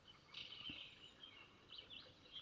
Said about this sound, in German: Die Vogelstimmen werden leiser.